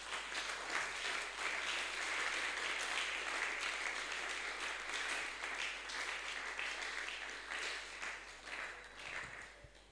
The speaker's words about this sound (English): I think you should be clapping.